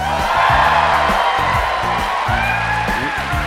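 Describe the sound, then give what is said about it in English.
A large, rowdy theater crowd at the Merle Reskin Theater on the DePaul University campus in Chicago, on October 26, 2017, cheers loudly and continuously, with high whoops and yells rising above a dense roar of many voices. “We are on stage in front of a rowdy and large crowd at the Merle Reskin Theater on the campus of DePaul University in Chicago.”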